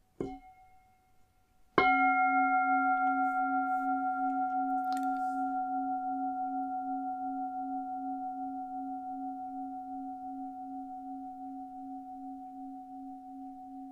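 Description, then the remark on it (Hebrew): A mindfulness bell is struck once during a guided meditation practice, giving a clear, resonant tone with steady overtones that lingers and slowly fades over many seconds, a softer tap sounding just before it. “במהלך התרגול אני אנחה אתכם במיקוד מסוים בגוף דרך הנשימה, ואני אזמין את הפעמון, ונשמע ככה.”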